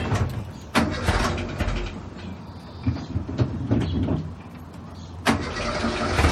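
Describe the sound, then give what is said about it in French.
The engine of an old brown 1973 Renault 12 car cranks and turns over as it is started, its low rumbling idle running throughout with a couple of sharp clunks and revs, with no talking. “avant de traverser la France et l'Espagne, il faudrait d'abord démarrer”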